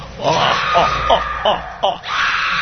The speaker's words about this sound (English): Now quit screaming, you would irritate me.